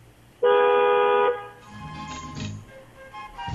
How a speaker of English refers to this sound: You know, when we drive to lunch and stuff, one of the guys on the show likes to honk his horn at shit. Honk that horn again.